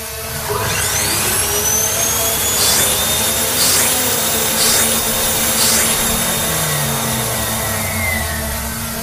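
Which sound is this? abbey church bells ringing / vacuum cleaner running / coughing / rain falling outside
vacuum cleaner running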